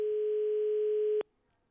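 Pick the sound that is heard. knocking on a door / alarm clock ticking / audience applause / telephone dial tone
telephone dial tone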